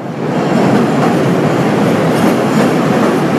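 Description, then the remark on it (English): An elevated train on Chicago's downtown line rumbles and clatters along the rails, a loud, steady rush of metallic noise that fills the whole stretch without letup. No one speaks. “At the Chicago Cultural Center, an 1890s landmark near the city's famed downtown elevated train line, the possible future of architecture, and in some sense Chicago itself, is now on display.”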